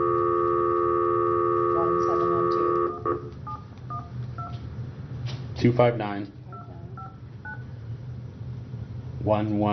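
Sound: telephone keypad dialing tones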